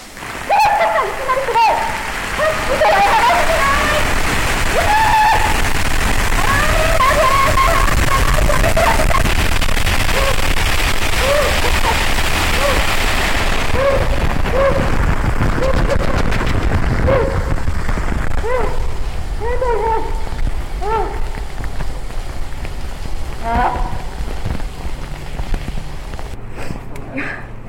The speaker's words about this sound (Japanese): 風速30メートル、時間雨量50ミリのね、台風と同じような激しい雨の風で体験してもらいます。